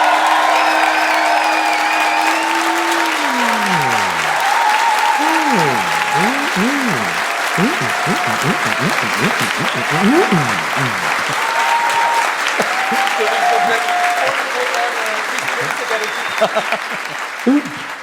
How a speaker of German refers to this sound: Ihr dürft auch für mehrere Kandidaten applaudieren, das wird nicht gezählt, sondern da geht es um so eine Gesamtidentität. Oh, sorry. Und jetzt also erstmal euer Applaus